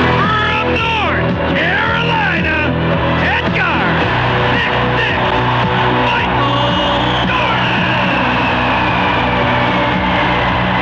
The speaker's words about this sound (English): In Chicago, one sure way to put a crowd of more than 24,000 basketball fans in a frenzy is to announce a starting lineup that includes number 45.